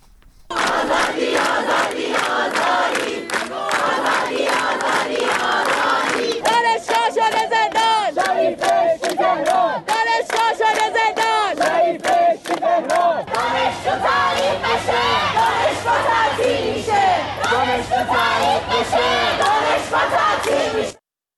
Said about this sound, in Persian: در برخی دانشگاه‌ها از جمله در دانشگاه علامه راهپیمایی اعتراضی و سر دادن شعارها از بامداد سه‌شنبه آغاز شده.